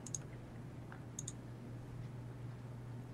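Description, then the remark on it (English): Two quick double clicks of a computer mouse on a computer dice roller, crisp, about a second apart, over a steady low electrical hum with no one speaking. “Oops, that was a skill roll. Clicking the wrong thing.”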